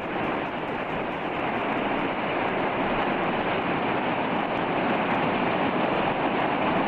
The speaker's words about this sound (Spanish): ¿Cuál es el primer sonido que te viene hacia la memoria cuando hablas de Islandia? Pues a mí me viene el sonido del agua, porque hay muchas cascadas.